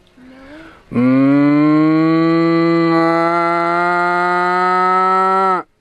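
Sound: cows mooing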